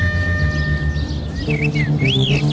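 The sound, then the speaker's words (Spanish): A small bird chirps a few times in the second half, short whistled notes that rise and fall, fairly clear over a steady low hum and faint background ambience. “Ven, sígueme, por aquí debe de estar. ese pajarito. ¿Lo escuchas?”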